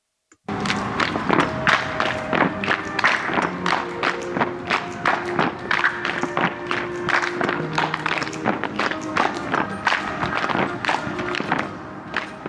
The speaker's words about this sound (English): they clap, stomp, and slap their thighs and chest in perfect unison